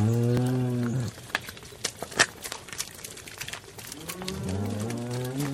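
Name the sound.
cow mooing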